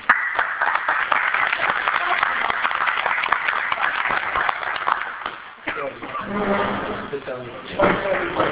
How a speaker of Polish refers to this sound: Także bym bardzo poprosił o takie delikatne oklaski.